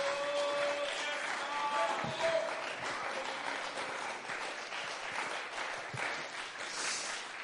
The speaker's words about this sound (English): Somebody clap their hands unto the Lord. Somebody slap their hands unto the Lord.